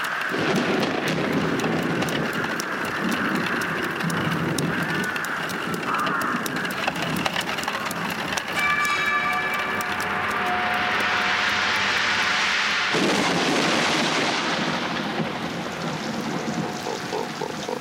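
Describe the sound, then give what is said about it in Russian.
Steady, dense rain hisses continuously throughout, with a low rumbling drone and shifting tones mixed in. No one speaks. “Птичка напьется, дождь прекратится, урожай будет.”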